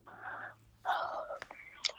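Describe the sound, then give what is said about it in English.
A breathy, drawn-out yawn: a soft airy exhale, a short pause, then a louder breathy stretch that tails off into a few faint clicks and rustles. “I heard that yawn, noting it.”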